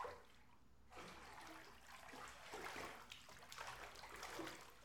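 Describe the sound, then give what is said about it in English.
A baby splashes water in a bathtub in irregular bursts, fairly loud, with a steady watery wash between the splashes and no talking. “You already splashed me before I could even finish my sentence.”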